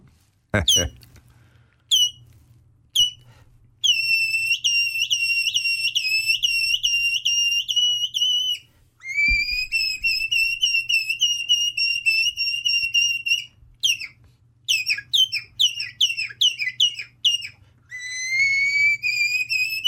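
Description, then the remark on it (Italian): A person whistles an imitation of a nightingale, the bird that sings at night: sharp chirps, then long sustained warbling trills, repeated quick rising notes and rapid staccato bursts, loud with brief pauses between phrases. “vuoi regalarci un ultimo uccellino? L'usignolo. Quello che canta di notte.”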